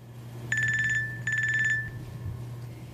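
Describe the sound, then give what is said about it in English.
A telephone rings in two short bursts of a bright, trilling electronic ring with a brief pause between them, heard clearly over a low steady background hum, as a call is made from a battery-free cell phone prototype. “Hi, I'm calling from a battery-free cell phone.”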